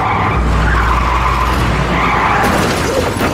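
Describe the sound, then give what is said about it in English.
At night on a foggy country road, a car skids loudly with a sustained tire screech over a heavy engine rumble, the squeal wavering as it swerves to avoid a fallen tree across its path, continuous for a few seconds with no voices. “Her eyes open wide and she swerves.”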